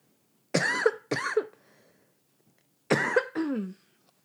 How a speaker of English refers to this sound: Don't make me laugh. I have to cough.